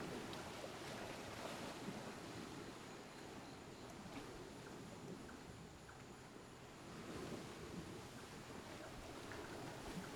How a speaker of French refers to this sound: Phu Quoc. Au loin, les moteurs des bateaux ronronnent. L'écume tiède se brise sur le sable chaud.